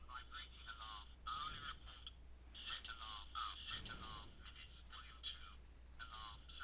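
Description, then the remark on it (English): A watch alarm sounds in repeated bursts of high, warbling electronic beeps, with brief pauses between groups, over a steady low hum. “There it goes. There's one alarm sound.”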